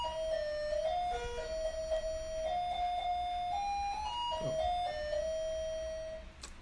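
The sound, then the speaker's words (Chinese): A melodic electronic doorbell chime of a home plays a bright, steady tune of sustained notes stepping up and down, fairly loud, lasting several seconds with no talking. “这个家的铃声真好听啊”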